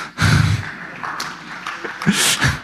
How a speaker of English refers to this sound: Yeah, that's the amount of applause that's due. That's perfect.